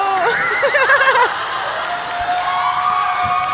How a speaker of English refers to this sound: Don't clap for that.